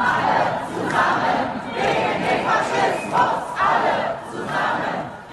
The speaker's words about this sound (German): Laut Polizei haben mehr als 900.000 Menschen gegen die AfD und Rechtsextremismus demonstriert, sind auf die Straße gegangen